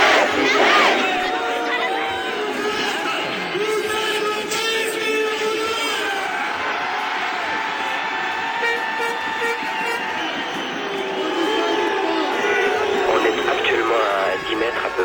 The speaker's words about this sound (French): De l'émeute, c'est une émeute. Vous entendez peut-être des pains d'explosifs, des pétards qui sautent dans la rue. On commence à dépaver un moutier, mais il y a vraisemblablement entre 500 et 1000 personnes qui veulent à tout prix en découdre